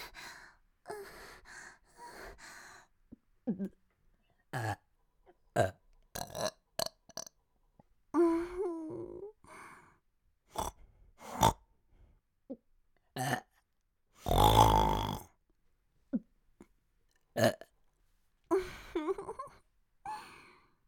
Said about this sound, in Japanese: お待ちかねの座面ゲップ出まーす。私のエロくてドスケベなゲップ聞いて。